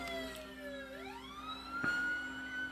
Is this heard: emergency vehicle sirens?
yes